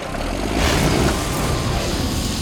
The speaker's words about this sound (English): I'll just hop on the tractor and start her up.